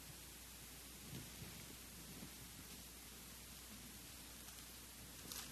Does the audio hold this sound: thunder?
yes